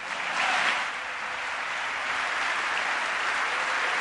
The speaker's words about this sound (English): On the Democratic side, many people sitting on their hands, not joining in the applause. Definitely a partisan response to this speech so far in Congress.